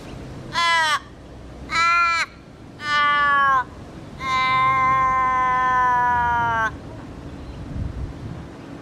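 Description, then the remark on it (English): Australian raven calling: three short, harsh, nasal caws followed by one long, drawn-out call that trails off at the end. The calls are loud, with no talking and faint background noise. “The Australian raven definitely does have that sort of tapered, drawn out call.”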